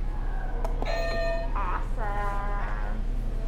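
A click as a buzzer is pressed, then a short electronic jingle of bright, bending tones lasting a couple of seconds, like a game buzzer going off. It plays alone over a steady low hum.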